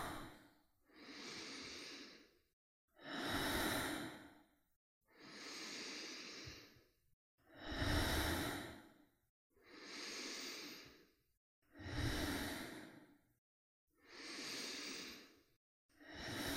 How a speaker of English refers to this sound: Three more breaths. Full breath. Breathing in. Exhaling out.